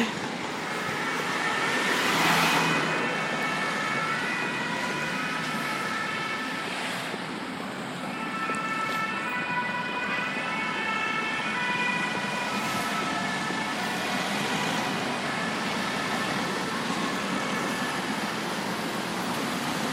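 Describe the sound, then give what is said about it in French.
An emergency siren from a fire engine or police vehicle wails along a busy street, its stacked tones holding steady for the whole stretch over a constant wash of traffic, loud with no one speaking. “Tiens, tu montes un peu le son, parce qu'avec les pompiers derrière ou la police, je sais plus.”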